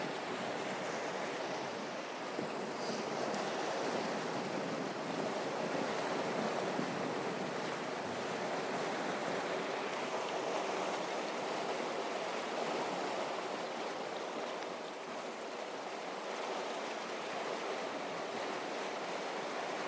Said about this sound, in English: Just going to pause the recording for a moment whilst I take a photograph of the water surging through the archway here underneath Richmond Bridge.